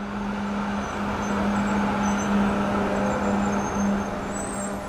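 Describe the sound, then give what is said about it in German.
A steady rumble of idling trucks waiting at the port of Zeebrugge for ferries to Great Britain holds a low, constant hum throughout, fairly loud, with faint hiss and clatter above while a coastal tram passes, and no voices. “Die fährt auch vorbei an den LKW, die gerade im Hafen von Seebrügge darauf warten, auf die Fähren nach Großbritannien zu fahren.”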